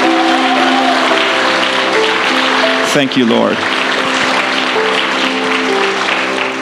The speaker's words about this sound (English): I would like you, as an act of honor towards those that are experiencing breakthrough, would you celebrate them and give them a huge round of applause? Come on. Amen.